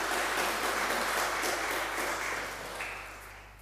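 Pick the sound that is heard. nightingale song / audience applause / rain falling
audience applause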